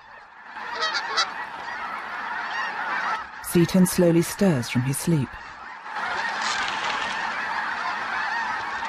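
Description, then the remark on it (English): Geese honk loudly in a quick, overlapping burst of about half a dozen calls on a lake swarming with geese and cranes at sunrise, set against a steady wash of bird chatter, with a man's voice speaking briefly at the start. “The sun rises over a lake, swarming with geese and cranes.”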